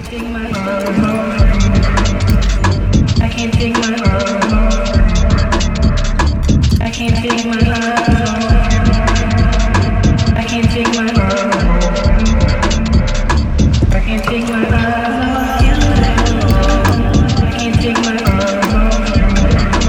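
A fast, driving electronic beat thumps steadily under sustained, brooding synth strings, the whole mix dense and loud from start to finish, with chopped vocal-like fragments woven through.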